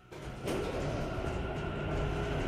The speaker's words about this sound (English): She presses the buttons, but nothing happens. Then the lift starts to descend.